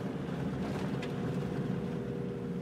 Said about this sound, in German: Junge Männer am Straßenrand blicken misstrauisch auf unser vorbeifahrendes Auto. Das einzige Fahrzeug weit und breit. Hier auf der Straße zum Flughafen.